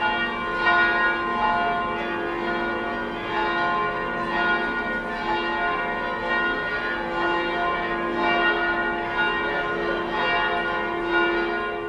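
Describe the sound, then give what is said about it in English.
A peal of 8 newly cast Whitechapel foundry bells rings from a floating belfry during a river pageant from Wandsworth to Tower Bridge on a cold, drizzly day, joined by church bells along the route, strikes overlapping into a dense, shimmering wash of tones at steady volume, no voices. “These rang out for the duration of the pageant from Wandsworth to Tower Bridge and were joined by bells from churches along the route.”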